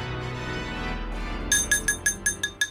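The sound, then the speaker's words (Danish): A glass is tapped for a toast about seven times in a quick, even rhythm, each bright ringing ting fading fast, following a second and a half of low, steady background rumble. “Nå, skal der slås på glasset derovre?”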